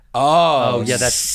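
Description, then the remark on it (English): A single person vocally imitates sizzling saganaki cheese: a brief drawn-out voiced sound slides straight into a loud, steady hiss like food frying on a hot pan, lasting about a second. “you know what goes? That sizzling cheese.”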